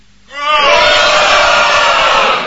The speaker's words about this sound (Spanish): Bueno. Gritemos un gol de Corea del Sur. ¡Gol de Corea del Sur!